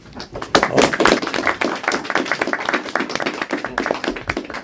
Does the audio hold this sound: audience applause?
yes